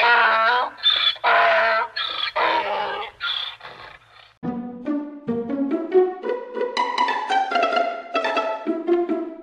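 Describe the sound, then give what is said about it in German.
A donkey brays loudly, starting with harsh, wheezy rasping bursts that give way to a long, honking series of see-sawing hee-haw cries. “Und wenn er schließlich keinen Hafer mehr zwischen den Blättern fand, rief er:”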